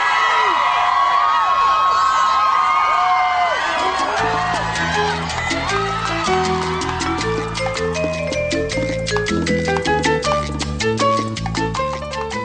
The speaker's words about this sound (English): And crowds of fans screamed at the New York premiere of Sex and the City, the movie.